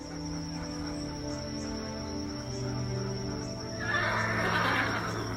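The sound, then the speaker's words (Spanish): A horse whinnies in a long, loud, quavering neigh close by, ending in a rough, breathy snort-like burst, with faint insect chirping in the background. “Le gustaba mucho el caballo porque le fascinaba y la vida de él era montar.”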